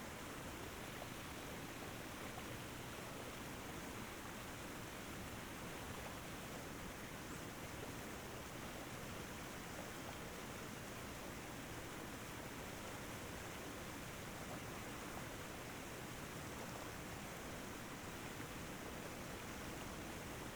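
waterfall flowing

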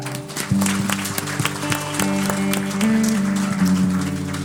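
audience clapping hands

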